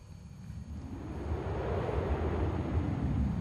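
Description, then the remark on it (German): Wind blowing in a steady, rushing whoosh with a deep rumble, gradually swelling louder over a few seconds. No voices are heard. “Also auch da windelt es schon wieder ein bisschen, windet es ein bisschen so rum.”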